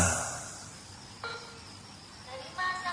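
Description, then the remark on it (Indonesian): An office attendance machine gives short electronic beeps as if someone has just clocked in: a brief tone near the middle, then a brighter pair of clipped, steady beeps at the end, over a low background hiss. “aku mendengar suara mesin absen berbunyi seperti baru saja ada orang yang mengabsen.”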